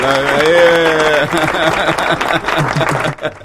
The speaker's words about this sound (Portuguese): Aplausos pro homem, vai. Aplausos, aplausos. Aplausos, mais aplausos pro homem. O homem é bom, vai, galera.